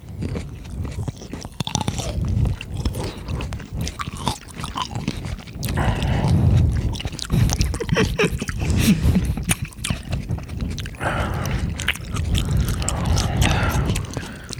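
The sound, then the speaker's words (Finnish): Sounds of grapes being bitten and chewed for ASMR, a steady run of wet, crunchy bites and squishing mastication lasting the whole stretch, with no talking over it. “Otetaanko perin, että jokaisessa jaksossa otetaan joku herkku ja sitten otetaan ASMR-kierros. Joka jaksossa purastaa rypäilettä.”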